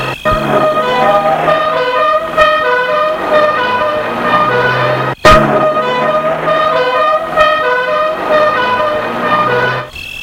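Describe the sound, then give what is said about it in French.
A police car siren blares loudly and continuously, its harsh tones holding steady with a brief cut near the middle before resuming; no voices are heard. “Puis, il entend une sirène de voiture de police.”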